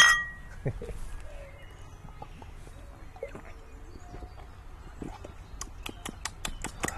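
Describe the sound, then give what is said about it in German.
Glass bottles clink together in a toast, a quick run of bright, sharp knocks near the end after scattered softer taps. “Prost! Prost!”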